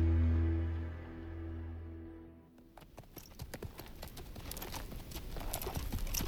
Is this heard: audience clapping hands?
no